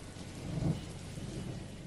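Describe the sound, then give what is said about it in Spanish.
Heavy rain pours down steadily with a low, rumbling roll of thunder swelling briefly in the middle, a dense, continuous wash of storm noise with no voices. “Joder, la que estaba cayendo, tronco.”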